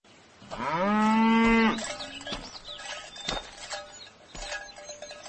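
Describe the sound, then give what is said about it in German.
A cow, being led out to pasture, lets out one loud, long moo, a rising drawn-out call lasting about a second, followed by quieter rustling and a few soft knocks in the background. “Dann führte er die Kuh auf die Weide.”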